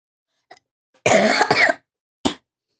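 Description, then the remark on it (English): A harsh coughing fit from a person who is still coughing with phlegm: a faint hack, then two loud rasping coughs run together, and after a short pause one more sharp cough. No one speaks. “So as you guys can hear, I'm still coughing a lot.”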